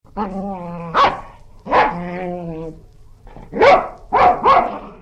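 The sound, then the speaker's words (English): A dog barks sharply, about five loud barks in uneven bursts, with drawn-out whining or growling tones between the first few. “They have sharp teeth, they bare their teeth and bark.”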